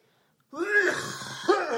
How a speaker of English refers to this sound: coughing up a black lung. He's been in the coal mines for ages.